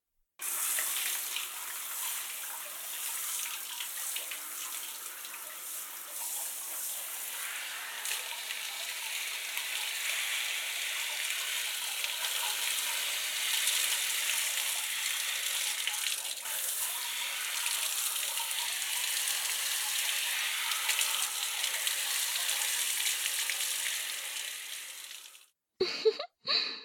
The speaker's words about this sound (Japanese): 一度シャワーで流してしまいますね。